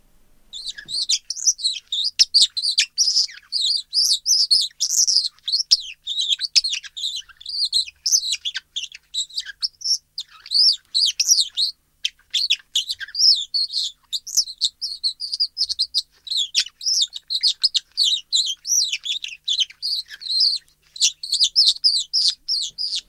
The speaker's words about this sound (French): c'est deux pierres de silex frottées l'une contre l'autre